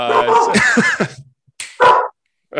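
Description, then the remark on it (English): A dog barks excitedly: a loud, tumbling run of yelping barks, then a brief pause and two short, sharp barks. “That's right, your dog knows.”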